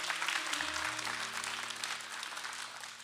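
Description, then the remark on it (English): An audience bursts into sustained applause, dense overlapping claps in a steady wash that holds loud for three seconds and eases slightly toward the end, with a low organ-like tone sustained underneath. “Clap on that. Come on, clap on that.”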